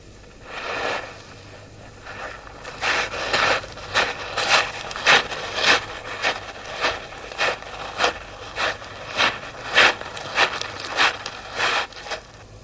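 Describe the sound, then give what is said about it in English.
Steady footsteps crunch at an even walking pace, about twenty crisp, gritty steps after a brief quieter start, with no voices and only a faint background hiss; a wild track footsteps sound effect recording. “But the footsteps start again now in a moment.”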